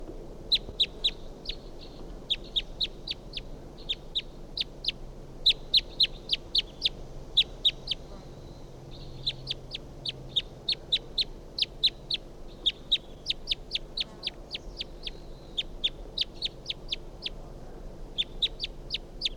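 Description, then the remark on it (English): A wild bird perched in a pine tree calls over and over, sharp high-pitched chips and squeaks delivered in quick irregular bursts for the whole stretch, fairly loud against a faint low hum, with no voices. “So recording that bird again.”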